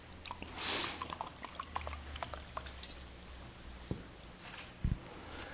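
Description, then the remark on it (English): Water pours briefly into a glass, a short soft rush followed by scattered drips and small clinks and a couple of dull knocks, fairly quiet, with no one talking. “Let's get a little bit more water, excuse me.”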